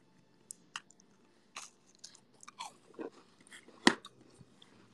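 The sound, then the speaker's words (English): Crunchy chewing of snickerdoodle cookies, with irregular crisp bites and crackles scattered over a few seconds and one sharper crunch near the end; no talking. “Sorry, I'm eating cookies.”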